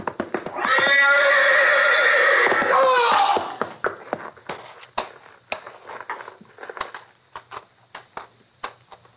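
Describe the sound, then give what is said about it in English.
A horse in a stall lets out a loud, drawn-out whinny lasting about three seconds, followed by a series of sharp clattering knocks and thumps, like hooves shifting on a hard floor. “You're backing into the horse.”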